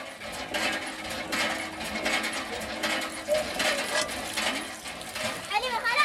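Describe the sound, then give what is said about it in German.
Hand-operated water pumps in the Dar el-Keir refugee camp in Chad clank and rattle in an irregular rhythm, with a few high, wavering squeaks near the end, while women and children pump drinking water into plastic buckets and canisters and voices, including children's, chatter in the background. “Sie scheppern, sie quietschen und sie sind lebensnotwendig.”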